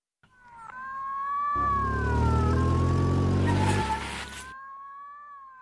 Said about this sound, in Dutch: Geloei van sirenen, daar verschijnt de politie.